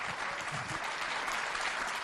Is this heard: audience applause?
yes